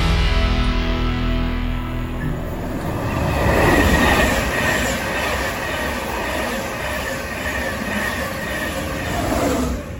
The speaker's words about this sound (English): So I am currently at Grantham Station waiting for my train to London King's Cross.